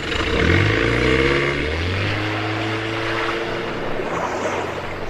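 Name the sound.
motorboat engine revving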